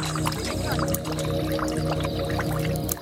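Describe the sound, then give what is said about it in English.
Water splashes and pours in steady, rhythmic spurts as young girls work a hand pump at a well in a leprosy colony in South Sudan. A continuous, fairly loud gushing runs throughout with a low, droning hum beneath it. “These young girls are pumping life-saving water from a well.”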